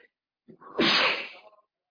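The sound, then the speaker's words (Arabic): A single sharp sneeze from a speaker in Turkey during cold, rainy weather: a short intake followed by an explosive, breathy blast that fades within about a second, with silence on either side. “ونسبة ان انا عطست، الجو بارد في تركيا ومطر وبتاع، ما سامحهم قاعديني في الاوضه يمكن ما تكونش متدفيه ولا حاجه.”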